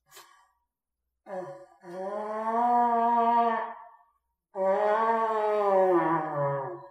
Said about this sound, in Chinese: 啊，呢个咧就系啊圣经所讲嗰啲嘅角啊。 这是圣经上面所讲的号。 好难吹噶。 非常难吹。